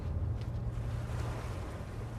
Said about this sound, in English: Get the skipper to cut the engines for a bit. Worth a try.